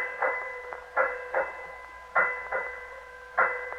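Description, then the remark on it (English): A ship's bell strikes seven bells in a measured sequence of clear metallic strikes, mostly grouped in pairs, each bright tone lingering briefly before the next, with no voices. “Well, sir, it's 7 bells. Strike it.”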